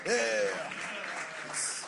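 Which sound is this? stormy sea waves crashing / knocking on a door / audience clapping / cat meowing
audience clapping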